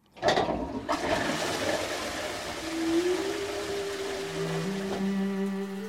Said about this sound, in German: Das geruchlose Klo mit Wasserspülung ist erfunden. So wie wir es heute kennen und benutzen.